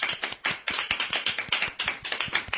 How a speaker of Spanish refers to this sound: Tenemos aquí a uno de los directores de... Repsol YPF, un aplauso fuerte para el Don.